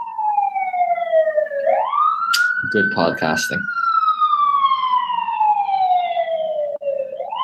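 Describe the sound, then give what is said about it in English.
A fire truck siren, responding to an ongoing fire, wails loudly and steadily, its pitch sliding slowly up and down throughout, with a man speaking briefly beneath it partway through. “apologies for the fire truck, there's an ongoing fire here.”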